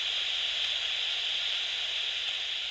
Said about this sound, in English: A group of about 50 people, all holding these weird devices. They looked a bit like walkie-talkies. They were blasting out static at full volume, and everyone was staring up at the sky.